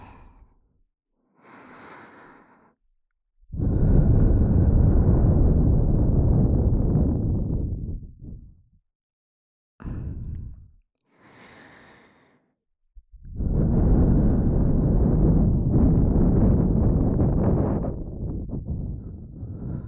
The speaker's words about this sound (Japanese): お耳にたくさんあったかい吐息当ててあげますね。